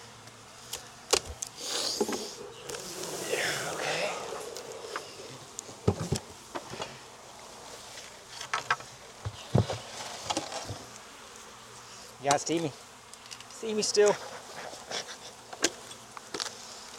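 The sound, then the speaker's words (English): A dense, steady buzz of many honey bees swarming around an opened hive box as a beekeeper works the frames, with scattered clicks and knocks and a brief spoken question from a person. “Oof, there are bees in here.”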